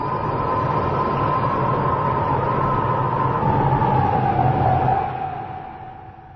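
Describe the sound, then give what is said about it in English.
A bus drives along with a steady, loud engine rumble and a sustained mid-pitched whine that slowly drops in pitch, then the noise fades away over the last second or so. No one speaks. “Driver, does this bus take me to the end?”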